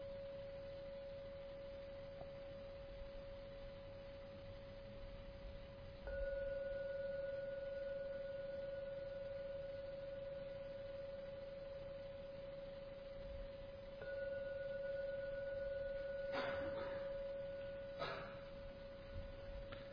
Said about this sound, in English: We will now ring the gong 3 times to end the meditation.